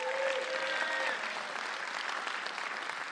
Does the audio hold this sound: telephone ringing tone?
no